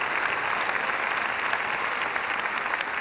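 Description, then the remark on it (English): A crowd claps steadily and densely, many hands blending into a continuous wash of applause that stays even in loudness throughout, with no voices standing out. “Come on, clap your hands right now, flipping the script.”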